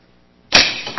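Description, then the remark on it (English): A sharp, loud snap of a spring-loaded rat trap slamming shut on a pencil, breaking a quiet lull, then a brief rattling decay and a smaller clack just after. “So I'm going to take this pencil, I'm going to put it in here so you can see how powerful this rat trap is.”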